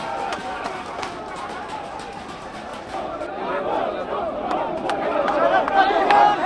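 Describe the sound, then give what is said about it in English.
A chaotic clash between police and lawyers at the grounds of Pakistan's highest court: a dense crowd shouts and murmurs while scattered sharp cracks and thuds of rocks thrown by police ring out, the commotion growing slightly louder toward the end. “The police are now throwing rocks at the crowd.”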